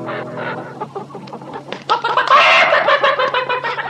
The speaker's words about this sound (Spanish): ¡Anda! Parece que también está ocupado. Disculpe usted, señora gallina.